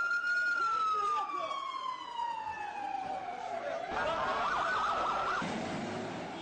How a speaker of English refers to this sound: Now I hear the ambulances running.